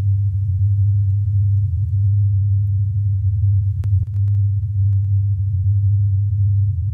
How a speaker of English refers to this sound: And that's what was known as the Taos hum in Taos, New Mexico. It's kind of nice.